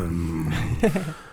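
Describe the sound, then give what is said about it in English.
A voice imitates a growling stomach with a low, rumbling drawn-out growl that rises into a brief gurgling wobble before fading out. “And when I listen to my growling stomach, it makes like...”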